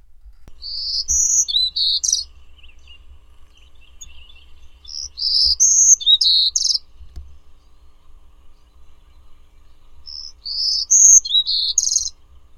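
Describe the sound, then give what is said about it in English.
Bright, high-pitched bird chirps come in three separate bursts of quick, warbling notes, separated by short pauses, heard clearly with no one speaking over a faint low rumble. Birdsong recording from the National Audubon Society Birdsong Collection. “Birdsong was provided by National Audubon Society Birdsong Collection, Lang Elliott Music of Nature.”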